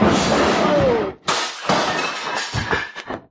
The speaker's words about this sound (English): The way you're hitting him, he's gonna fall against the bar and upset those beautiful bottles and all.